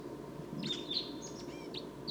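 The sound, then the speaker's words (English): Decoy bird calls sound as a string of short, high chirps and thin whistles, repeated irregularly over a steady low rumbling hiss, moderately loud with no voices. “The decoys are calling.”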